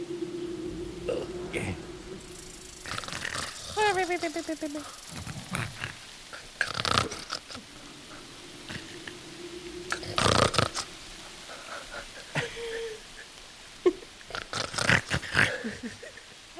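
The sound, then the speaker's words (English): Repeated snoring, with rough rasping inhales, snorting bursts and a low droning hum, recurring irregularly at moderate loudness with no words spoken. “I know someone else is snoring and I hate it.”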